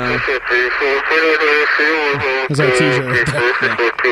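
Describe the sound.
A voice imitates the crackly static of a radio station in Artesia, a continuous loud warbling hum blended with steady hiss, unbroken for about four seconds.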